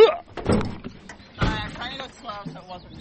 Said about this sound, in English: All right. Now we're at part two of Fern Hill Farm in Buckland. Getting out of the truck.